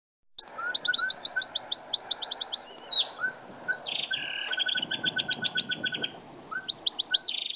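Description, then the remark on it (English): A sped-up recording of a siamang's call out in the forest that sounds like a bird: rapid bursts of high, chirping notes repeating in quick rhythmic runs, with a busy forest hum underneath and no talking. “And let's listen to the same recording, sped up.”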